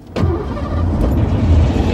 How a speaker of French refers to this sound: Et c'est quoi cette voiture-là? C'est à qui? Ben, c'est ma 504 Break.